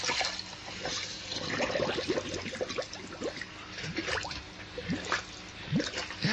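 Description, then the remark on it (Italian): People going underwater all together on a count of three in a swimming pool: steady gurgling and bubbling with scattered splashy bursts and rising bubble pops throughout, fairly loud, with no talking. “Dai, tutti andiamo sotto tutti insieme, forza. Uno, due, tre.”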